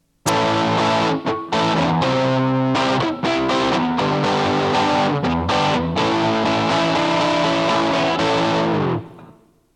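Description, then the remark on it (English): A heavily distorted electric guitar played through an amp's chunk rhythm preset plays chunky rhythm chords, loud, with short choppy breaks between strums before the final chord rings out and fades. No one speaks. “Okay, here's the one they call chunk rhythm, which has a bunch of distortion to it.”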